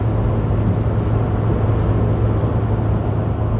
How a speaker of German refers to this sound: Wir fühlen uns gerade wie so ein bisschen im Raubüberfall, weil vor uns ist ein LKW, der fährt langsam. Rechts macht ein LKW dicht, links ist Leitplanke und hinter uns machen zwei Autos Druck.